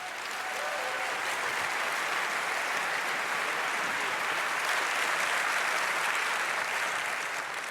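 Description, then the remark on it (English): A large audience applauds steadily to welcome speaker Ange Albertini for his talk on file formats, a dense, even wash of clapping that stays loud from start to finish without any voices. “Give him a very warm applause.”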